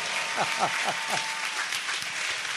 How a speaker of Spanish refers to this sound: Queridos hermanos, el Papa Francisco, que merece un aplauso, ¿eh? ¡El Papa Francisco!